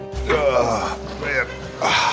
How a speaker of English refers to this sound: You've been riding horses? Yes, you noticed. Yes. The groan as I sit down.